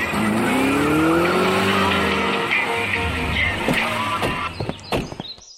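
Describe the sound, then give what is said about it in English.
A car engine revs loudly and steadily, its pitch climbing, with tires squealing and skidding as it drives off, ending in a few sharp knocks and clatters. “Do you want to drive or me? You still have the keys to your car.”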